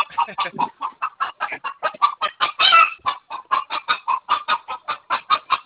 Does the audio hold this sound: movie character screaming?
no